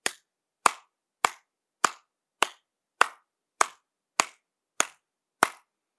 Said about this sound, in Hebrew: נסו לשמוע את צלילות מחיאות כף היד עכשיו.